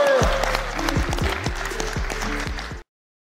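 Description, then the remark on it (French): An audience applauds steadily, a dense wash of many hands clapping at full strength for about three seconds before it cuts off abruptly, with faint voices mixed in. “S'il vous plaît, tous ceux qui sont derrière les caméras, on l'applaudit.”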